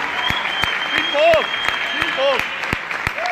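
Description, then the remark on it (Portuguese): Steady applause from an audience, a dense patter of many hands clapping with sharp individual claps standing out, accompanied by a few cheering voices rising and falling over it. “a pessoa que me convidou e me conectou a esse conceito, ele não está aqui, mas se você puder aplaudir ele, Daniel Mello.”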